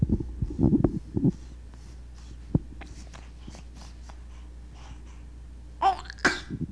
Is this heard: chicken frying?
no